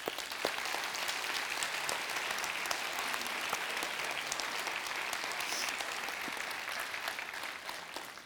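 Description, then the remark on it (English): Sustained audience applause fills the whole stretch, a dense, steady patter of many hands clapping at an even level before tapering slightly at the end, with no talking over it. “I didn't bring them up just necessarily to get an applause, but thank you.”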